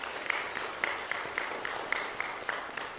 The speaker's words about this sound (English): Let us give a round of applause for our musicians and our singers today.